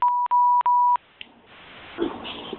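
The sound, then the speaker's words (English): Three steady telephone keypad tones in quick succession as star 6 is pressed, each clear and fairly loud, followed by a faint click and low, rustling background noise with no speech. “by pressing star 6.”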